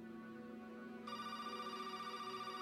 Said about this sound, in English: And my phone rang pretty early in the morning